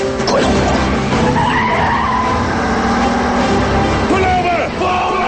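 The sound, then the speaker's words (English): Loud car chase as Murtaugh's battered car speeds down a ramp after a Mercedes and pulls alongside it: roaring engines with high, wavering tire squeals and skids cutting through, a continuous dense rumble, and a faint voice briefly underneath. “Murtaugh speeds down a ramp after the Mercedes. Their battered car pulls alongside the Chinese thug.”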